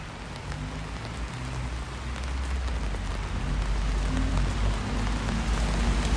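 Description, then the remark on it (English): Steady rain patters continuously on a town street in Carlisle, a dense hiss of drops with a low rumble of traffic beneath, growing slightly louder partway through; no one speaks. “So yeah, the rain is still... Can you hear that?”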